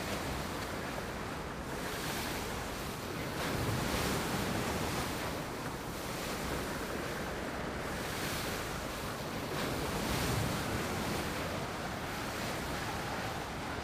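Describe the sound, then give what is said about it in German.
Steady ocean waves wash and splash against the hull of a large white sailing ship as it slowly rises and sinks, heard from the railing at the bow, with light spray and a gentle wind rushing across the microphone, swelling every few seconds with no voices. “Leichte Gischt spritzt auf, wenn sich das große weiße Segelschiff im Wasser behäbig auf- und niedersenkt.”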